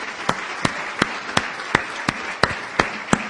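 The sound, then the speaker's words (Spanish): Audience applause at an Amway business meeting for standing audience members who practise their professions alongside the business: a dense wash of clapping with a run of sharp, evenly spaced claps standing out, roughly three per second, steady and fairly loud throughout, with no talking. “Y les demos el más fuerte aplauso que se puedan imaginar.”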